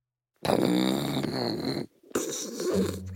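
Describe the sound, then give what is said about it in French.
A wolf snoring loudly: two long, rumbling snores, the first an inhale-like drone, the second a rougher exhale after a short pause, with no talking. “Et pendant que le loup ronfle, que les araignées s'amusent au saut à l'élastique et que Monstre Rouge dévore Tintin au Tibet, Thomas, Monstre Vert et Ours jouent une partie de Uno endiablée”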